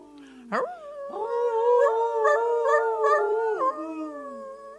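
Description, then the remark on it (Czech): Wolves howl together: a short rising yelp-like howl, then several long, sustained, overlapping howls that waver in pitch before trailing off. No one speaks. “Bílý vlk Veles k ním pronesl svou vlčí řeč z očí do očí a vlci na znamení souhlasu krátce a dlouze zavili.”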